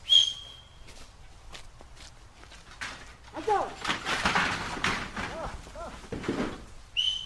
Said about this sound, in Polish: Ty już też chyba umiesz gwizdać, co? No już pomału umiem, ale jeszcze tak dobrze jak dziadek, to jeszcze nie umiem.